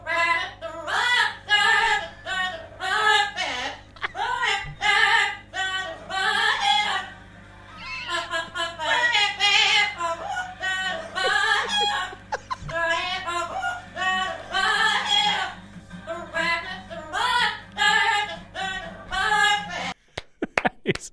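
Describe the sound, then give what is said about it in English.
Two parrots sing a tune together for about twenty seconds, their shrill, warbling voices carrying a recognizable melody in short phrases, ending abruptly with a few clicks. “there's this guy and he's got these two parrots and they're singing”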